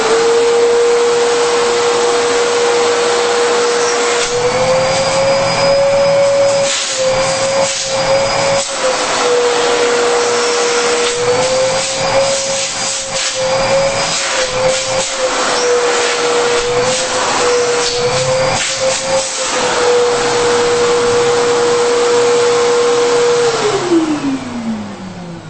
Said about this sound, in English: This is the Perfect Products Backpack Vacuum 10 quart. If I can find the switch here. All right, here we go.